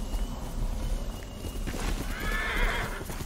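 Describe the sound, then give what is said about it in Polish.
A horse whinnies with a bright, wavering neigh near the end, while steady clip-clopping hooves sound throughout over a low background rumble. “Jak on do tego konia ładnie mówi, nie?”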